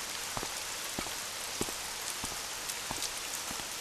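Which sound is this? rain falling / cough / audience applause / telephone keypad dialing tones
rain falling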